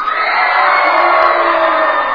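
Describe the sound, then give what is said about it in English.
A large crowd cheers for their team, shouting together in a loud, sustained roar, with whoops and children's high-pitched yells blending into a steady wall of noise. “Who's going to cheer for their team?”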